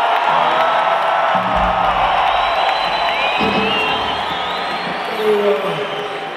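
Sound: audience cheering and whooping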